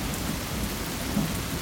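Heavy rain pours steadily in a downpour of large drops, a dense hiss of drops beating against a glass window under an overcast sky, with a low rumbling undertone, constant for the whole stretch with no voices.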